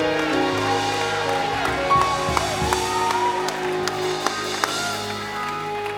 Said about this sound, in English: Why don't you give God un fuerte aplauso al Señor. Clap your hands, all ye people. Fuerte aplauso.